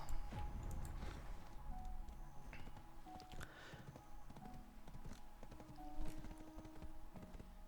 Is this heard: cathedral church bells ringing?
no